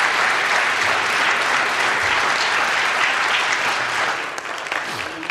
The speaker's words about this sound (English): Lord, a clap offering for all the work He's done.